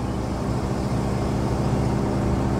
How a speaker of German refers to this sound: Also es ist Wahnsinn, wie dieses Auto hier anschiebt mit 4 Tonnen. Diese 7,7-Liter Maschine ist wirklich fantastisch.